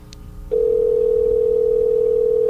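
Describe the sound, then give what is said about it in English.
A single steady electronic ringback tone from an outgoing call placed through Skype sounds for about two seconds, loud, starting and stopping with faint clicks, with no voices. “I have it set up that I can call through Skype. And if we get her voice, I'm letting it ring now.”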